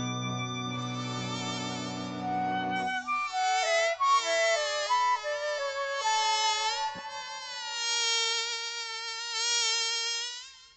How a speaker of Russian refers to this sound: Вдруг откуда-то летит маленький комарик, и в руке его горит маленький фонарик.